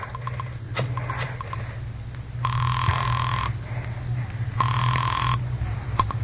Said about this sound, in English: Pick up the phone and dial a number.